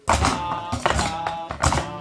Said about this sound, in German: Und ein Highlight dieses kleinen Musicals ist natürlich das Trommeln